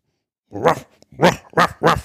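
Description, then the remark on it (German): A person imitates a dog barking with four loud woofs: one on its own, then a short pause and three quick barks in a row. “Hund, Katze.”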